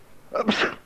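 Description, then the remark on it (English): A single sharp sneeze from one person, fairly loud, with a quick intake followed by a bright, breathy burst, heard alone with no talking. “That was a sneeze.”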